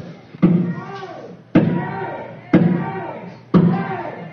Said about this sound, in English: Our physical safety is being threatened by the actions of the demonstrators outside banging on the windows, which could easily get broken, and we will have a mob scene.